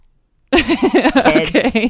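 After a brief silence, high-pitched voices of children outside break out in a rapid run of short, rising-and-falling calls that sound a lot like a cat meowing, continuing steadily to the end.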